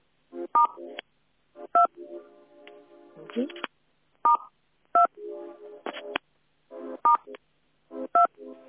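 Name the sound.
telephone keypad dialing tones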